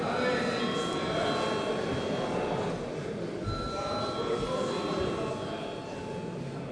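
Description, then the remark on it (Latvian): An electric bell rings continuously for about seven seconds in a parliament before a vote, a steady, loud metallic ringing with sustained overtones over a noisy background, fading slightly toward the end. “Lūdzu zvanu.”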